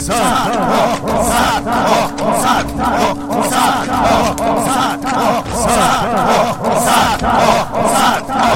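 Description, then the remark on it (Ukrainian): A crowd of warriors shouts in loud, continuous overlapping cries while drums beat a steady pulse and a sustained horn drones beneath them, fading out partway through. “Все швидше кричали воїни, все пронизливіше свистіли ріжки, все гучніше били бубни.”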